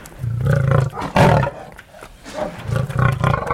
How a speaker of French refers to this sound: il a le poil luisant, il semble en excellente santé. C'est un lion âgé de 9 ans.